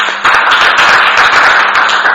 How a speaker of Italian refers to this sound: Quindi un applauso, direi.